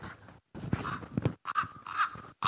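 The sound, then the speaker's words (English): Ravens calling: a run of harsh, hoarse croaks, four or five in quick succession with short gaps, fairly loud, no voices. “Ravens, big, black, scary birds in some ways.”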